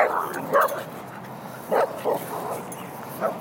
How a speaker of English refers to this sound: But, well, okay, here comes the barking dogs.